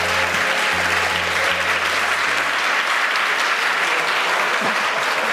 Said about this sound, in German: Der Applaus gilt natürlich auch meinen Gästen.